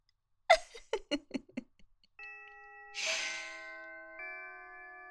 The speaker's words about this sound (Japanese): おっと、文化祭終了のチャイムが鳴ったな。もちろん私と君にとっては全然違うものに聞こえるけどね。